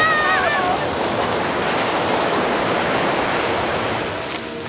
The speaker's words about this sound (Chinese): 大家快逃啊！巨鳗堵住了河水，大水来了！ 淹水了！淹水了！